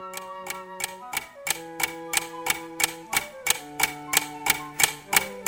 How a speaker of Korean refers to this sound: 벽시계의 바늘소리가 점점 커졌지만 종소리를 울리지는 못했다.